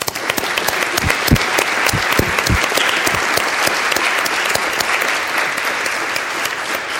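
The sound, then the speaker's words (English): A crowd breaks into a round of applause honoring the community service of the Community Church, dense steady clapping that stays loud and even for several seconds, with sharper individual claps standing out early on. No one speaks. “And let's have a round of applause for the community service of the Community Church.”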